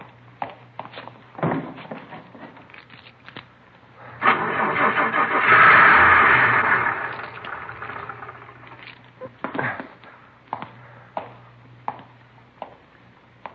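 car engine starting

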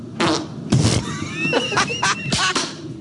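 fart

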